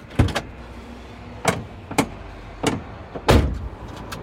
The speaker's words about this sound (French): Alors, c'est un Renault T. Voilà, poids total en charge maximum 44 tonnes. Donc on peut mettre 29 tonnes de marchandises.